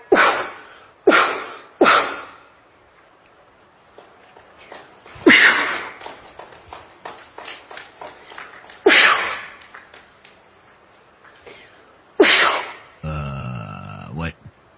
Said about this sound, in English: How'd you like to have this lady sneeze on her head?